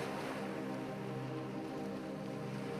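Gentle dark-blue ocean waves wash in at sunset with a steady, soft hiss that fills the whole stretch without pause, even in level, with a faint low rumble underneath and no voices.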